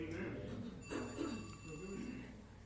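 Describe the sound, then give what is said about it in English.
A telephone rings steadily in the background, its electronic tone faint and continuous beneath a voice speaking. “Somebody better get that phone.”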